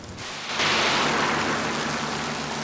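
A car engine hums low and steady beneath a thick, constant wash of heavy rain, the hiss swelling louder after a brief moment and holding unbroken, with no voices.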